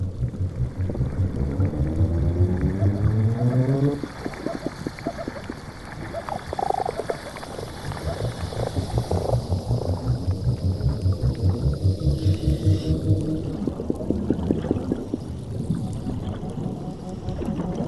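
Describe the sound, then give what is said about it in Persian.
Fish calls recorded beneath the sea with underwater microphones: a steady stream of low grunts, pulsed croaks and rhythmic knocking sounds, some rising in pitch, overlapping continuously with no voices. “به طور شگفتی آوری ماهی ها می توانند با یکدیگر صحبت کنند.”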